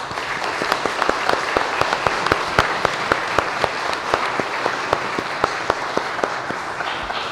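An audience applauds steadily for several seconds, a dense wash of clapping with sharp individual claps standing out in an irregular rhythm, fairly loud and without any talking.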